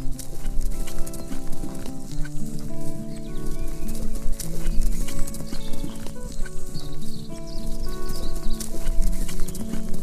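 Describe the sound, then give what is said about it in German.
Steady clip-clop of a white horse's hooves at a walking pace along a forest path, clear, with repeated rhythmic hoofbeats over a layer of background music and no talking. “Doch plötzlich wird das weiße Pferd langsamer.”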